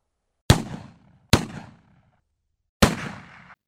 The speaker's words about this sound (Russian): Принц вместе со своими слугами как-то охотился в лесу на кабанов. Они вышли по следу на целую стаю и стали стрелять из ружей.